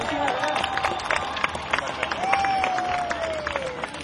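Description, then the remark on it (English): A concert crowd claps steadily in dense, crackling applause for the bands, with cheers and a long rising-then-falling whistle or shout cutting through the middle, fairly loud and sustained. “I want a round of applause for all the bands who played yesterday in the rain.”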